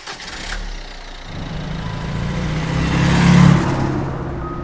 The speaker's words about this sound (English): The group run down to the street and into their car, speeding away.